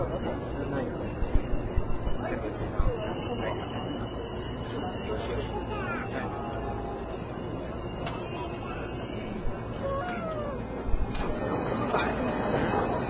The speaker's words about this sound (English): Okay, we're out on the platform now. This is a station where you have competing announcements, announcements on top of announcements. Utter mayhem.